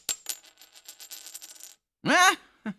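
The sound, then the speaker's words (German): A coin tossed to choose between Paris (heads) and Vienna (tails) strikes a hard surface with a bright metallic ring, then rattles and spins in quickening clinks before settling on tails. A short tonal warble and a soft thump follow after a pause. “Wirf doch eine Mütze. Ein kluger Ratschlag aus einem solch winzigen Köpfchen.”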